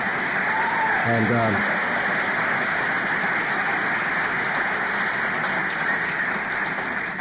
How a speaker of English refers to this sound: That's another applause for the higher power.